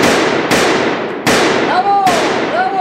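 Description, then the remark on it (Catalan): Four loud, sharp pistol gunshots crack out one after another at irregular intervals, each with a bright echoing tail, forceful; the shots are fired inside a car from a pistol taken from a bag. “Li fot una empenta al violador i abans que ell es pugui posar dret, l'Aileen treu la pistola que porta a la bossa i li fot 6 trets.”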